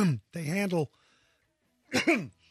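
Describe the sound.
A man clears his throat in three rough, voiced bursts separated by short pauses, with a longer gap before the final strained rasp.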